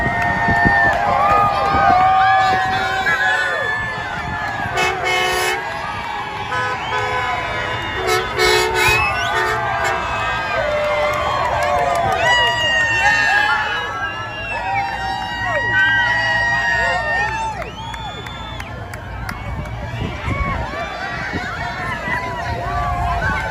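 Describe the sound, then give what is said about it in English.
A roadside crowd in Florida, waiting for a motorcade to drive by and showing support, cheers and shouts continuously while car horns honk repeatedly over the noise, with several overlapping toots at different pitches rising above the steady, loud din of voices. “He's down there, and he's literally just, people are waiting for him to drive by. Just, they're showing their support for him.”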